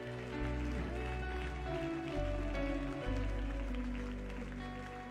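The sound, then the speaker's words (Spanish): An audience at a church service breaks into loud, sustained applause at the preacher's call for a big round of applause, a dense wash of clapping that holds steady for several seconds, with deep rumbling tones underneath. “Dígame y da un fuerte aplauso.”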